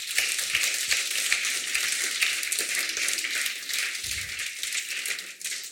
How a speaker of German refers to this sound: Einen kleinen Applaus für den Herrn Ruiz, bitte.